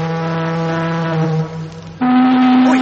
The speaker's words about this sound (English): Sound the siren! Sound the siren! Is the ship coming this way?